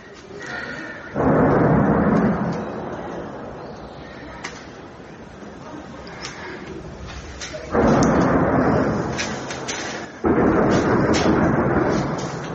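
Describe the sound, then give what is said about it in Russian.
Heavy weapons fire by the occupying forces, most likely shots at the Kreminna forest, heard by residents of Rubizhne, less than 10 km from the Kreminna section of the front. It sounds as three loud, deep rumbling bursts, each rolling on for a second or two before fading, with a low continuous rumble lingering between them. “То есть, скорее всего, именно выстрелы по Кременскому лесу слышат жители в этом видео.”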